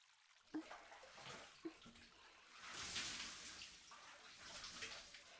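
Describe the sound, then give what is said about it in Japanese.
Water pours and splashes steadily in a bath, rinsing soap suds off someone's back, a broad rushing hiss that swells in the middle, with a couple of soft knocks early on and no voices. “もう少し流します。はい、泡も落ちました。”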